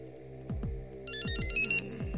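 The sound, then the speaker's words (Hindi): A telephone rings with a bright, trilling electronic tone over a steady musical bed, while pulsing low thumps repeat in a rhythmic pattern beneath it, as a phone-a-friend lifeline call is placed by computer to a contestant's wife on the game show Kaun Banega Kaudipati. No one speaks. “चलिए कंप्यूटर जी, इनकी बुढ़िया को फोन लगाया जाए।”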